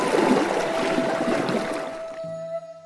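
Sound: flowing river water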